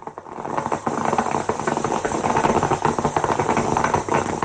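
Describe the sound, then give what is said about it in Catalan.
An old-fashioned stovetop coffee maker gurgles and sputters steadily, a dense, hissing bubbling broken by quick crackling pops and rattles, with no voices. “aquest és el meu so del cap de setmana. Una cafetera com les d'abans.”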